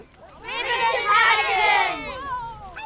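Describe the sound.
A lively outdoor crowd at a Christmas street pageant in Riverton, with overlapping voices and children's high-pitched squeals and shouts rising to a peak in the middle before easing off, the chatter staying loud and continuous throughout.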